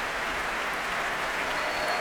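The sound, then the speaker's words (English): A concert audience applauding the orchestra after a symphony, a dense steady wash of many hands clapping together, moderately loud and sustained throughout with no voices standing out. “Here it comes again, applauding the orchestra.”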